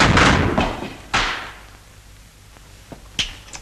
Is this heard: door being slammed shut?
yes